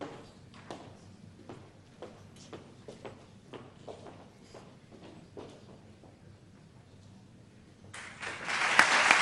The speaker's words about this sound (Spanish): En este momento los estudiantes muestran el diploma a los asistentes y los asistentes les devuelven una ovación.